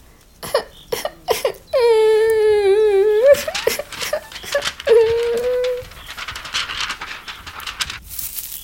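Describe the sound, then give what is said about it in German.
A voice imitates a little owl crying very loudly behind a bush: short sobbing gasps, a long high wavering wail, then a second shorter wail, trailing off into softer sniffling sobs. “Die kleine Eule schüttelte den Kopf und heulte weiter.”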